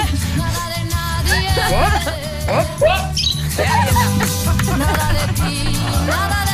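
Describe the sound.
Two voices mimic a little bird's chirping with quick, squeaky rising and falling peeps, repeated in bursts over a steady, loud background of sustained tones.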